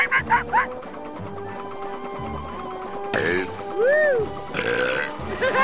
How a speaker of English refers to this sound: Just keep burping, ….